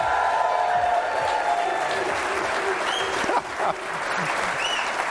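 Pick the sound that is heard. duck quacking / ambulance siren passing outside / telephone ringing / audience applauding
audience applauding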